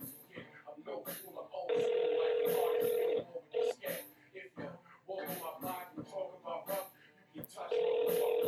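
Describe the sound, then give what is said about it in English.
An outgoing phone call ringing on the line, with a long steady ring tone, a pause, then another starting, heard loudly beneath a man talking. “Right now he's looking at his phone like, should I answer? Should I answer?”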